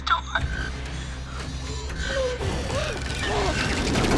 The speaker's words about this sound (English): You almost closed the door on it.